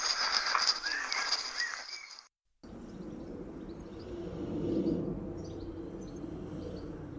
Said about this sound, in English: Morning. Those are the sounds from my tiny garden sitting in Bristol. bird song, the roar of the city beginning in the morning, a plane flying overhead, which is quite unusual.